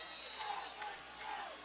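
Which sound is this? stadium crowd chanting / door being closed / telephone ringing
stadium crowd chanting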